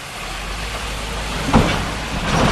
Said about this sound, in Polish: Uwaga, jedzie tir, to może posłuchamy.